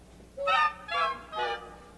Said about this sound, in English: And then we hear the squeaking and squealing of the poor little train as the woodwinds play way up high.